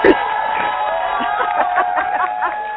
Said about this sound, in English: That's right. We got to give a round of applause, of course.